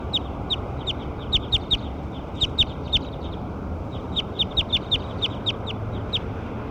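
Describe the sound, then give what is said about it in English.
A recorded call of bird 6: quick, high-pitched chirps in clusters of three to five, repeating over several seconds above a steady low rumble of background noise, with no talking. “This is the call to bird 6.”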